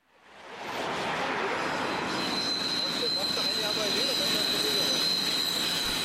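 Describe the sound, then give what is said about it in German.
A Berlin S-Bahn commuter train squeals overhead with a steady high-pitched metallic whine, over a dense roar of four lanes of jammed traffic on Grenzallee below, in Neukölln, on a damp, cold January Saturday morning; the roar swells in and stays loud throughout. “Oben quietscht die S-Bahn, unten in der Grenzallee staut sich der Verkehr vierspurig.”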